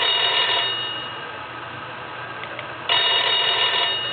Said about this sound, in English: And then, just before midnight, the phone rang.